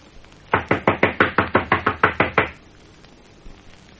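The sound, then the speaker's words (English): A rapid, steady series of about eleven loud knocks on a door, made by men standing on a front veranda and knocking again louder to check whether anyone is in, sharp and evenly spaced, followed by quiet with no answer. “Knock again. Louder.”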